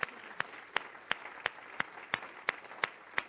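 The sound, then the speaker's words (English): An audience gives a clap offering at a morning service, a dense wash of clapping punctuated by sharp, evenly spaced louder claps in a steady rhythm, roughly three per second. No one speaks. “Give him a great clap offering this morning.”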